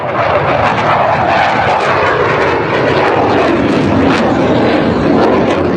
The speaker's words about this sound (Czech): U Zagreb je jučer iz Bordoa stiglo 6 od 12 kupljenih višenamjenskih borbenih zrakoplova Rafala